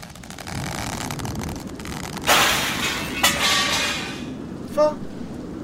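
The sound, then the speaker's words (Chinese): A sudden loud crash as the living-room window glass breaks during Typhoon Soudelor in Taiwan, cutting through a steady roar of wind and rain, followed by a second smaller smash and a brief tinkling rattle as debris settles. “爸爸，你看，客厅窗户的玻璃破了。”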